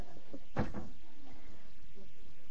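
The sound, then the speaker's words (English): A door swings shut with a single dull thud, followed by a quieter knock or rattle as it settles, then faint background noise. “Would you just close that door for me?”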